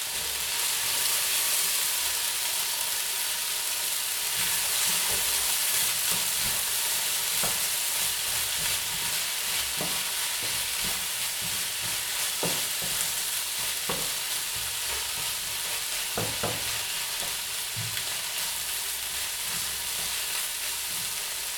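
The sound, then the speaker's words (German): Vegan scrambled egg sizzles steadily in a frying pan, a constant bright hiss broken by irregular scraping knocks as a utensil stirs and pushes the mixture around. No one speaks. “und da gebe ich jetzt so 2-3 Esslöffel unter das Rührei.”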